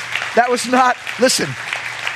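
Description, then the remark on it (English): An audience claps steadily, the scattered clapping forming a continuous wash of noise while a few voices call out loudly over it. “that was not to produce a clapping response from you.”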